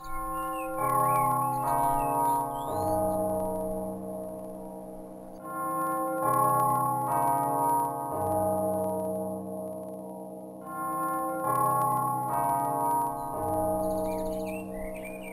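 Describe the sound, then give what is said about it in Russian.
Bells ring out in a steady peal, each strike blending into long, overlapping resonant tones, with faint birds chirping high in the background and no one speaking. “Но в это время зазвонил колокол.”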